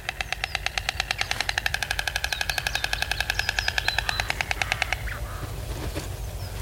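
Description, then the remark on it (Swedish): A bird rapidly clatters its bill in a fast, even machine-gun rattle for about five seconds before it stops, leaving a low rumble of background noise. “Så det är ett annat ljud, men det är framförallt näbben de använder till att göra ljud.”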